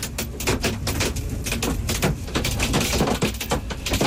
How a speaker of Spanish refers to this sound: Una tormenta que dejaba granizo de más de 5 centímetros de diámetro, que también se repetía en Salazar, en el Pirineo Navarro.